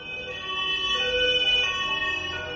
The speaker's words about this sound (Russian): Тогда скорая приехала к зданию регионального Минздрава и включила сирену.